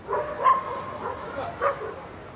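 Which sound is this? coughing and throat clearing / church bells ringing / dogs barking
dogs barking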